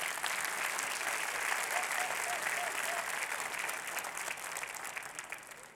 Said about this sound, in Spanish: yo me traje a mi esposa para que me aplauda por si nadie me aplaude.